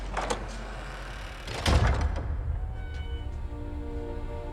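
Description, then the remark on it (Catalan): A heavy theatre door is pushed open onto the darkened stalls, with a scraping rattle followed by a solid low thud midway, then a quiet, faint hum. No voices. “obre la porta del teatre i guia els nois fins al pati de butaques a les fosques.”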